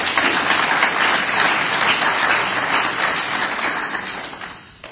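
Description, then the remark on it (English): An audience breaks into sustained applause for the pastor and his wife who invited the guest speaker, dense overlapping hand clapping that holds steady and loud for several seconds before thinning out and fading toward the end. “And I request this congregation to give them a big hand clap for this.”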